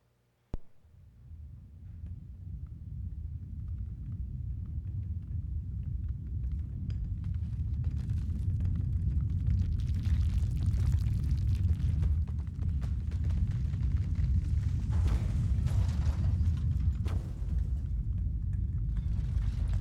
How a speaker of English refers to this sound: And suddenly, there was a great earthquake.